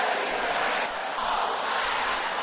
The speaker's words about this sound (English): Brothers, can I hear you roaring like thunder?